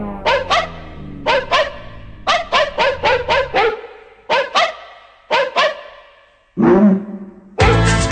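Synthesized, pitched dog barks, modulated on a keyboard, bounce in quick rhythmic pairs and runs over a thumping electro dance-funk beat, loud and upfront, ending with a couple of broader noisy hits.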